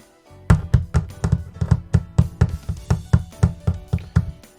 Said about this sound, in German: Das ist Hagel, Tropfi, rief die Sonne. Eisige Körner fielen herab und prasselten auf die Blätter und Dächer.